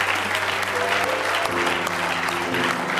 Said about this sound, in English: Give him another big hand clap of praise if you love him with all your heart.